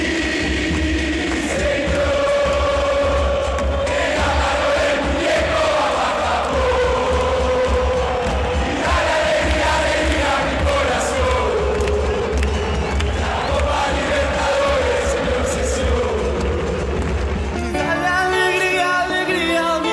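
A large crowd of the Misiones club's football fans sings their anthem, a classic Argentine song adopted during the 2015 campaign, loud and sustained, many voices carrying a slow melody with rising and falling phrases before the chant shifts near the end.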